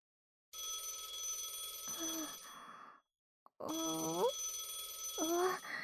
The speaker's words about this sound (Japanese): 電話が来た。あ、電話って言ってね、離れた人と会話できる魔法があるんだけど、この音が合図なの。でも、職場からなんだよね。